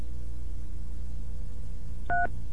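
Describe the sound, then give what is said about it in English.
A single short telephone keypad tone, the beep of pressing zero on a phone company's automated menu to reach a representative, sounds clearly near the end over a steady low background hum. “If you would like to order new service and are not already a phone company customer, press 4. Or press 0 now.”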